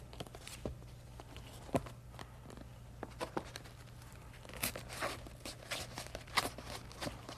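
Quiet paper crinkling and scratching, with a scattering of sharp little pops and crackles as a pencil is poked through a stiff paper plate, over a faint low hum and no talking.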